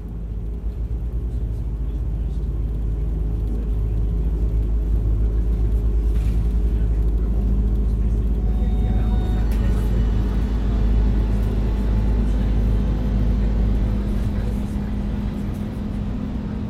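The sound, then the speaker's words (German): A bus engine rumbles loudly, then revs higher as the vehicle pulls away and keeps driving, with a steady low drone and rising engine tones throughout. “Der Bus fährt an, der Mann mit den langen Haaren ist weg.”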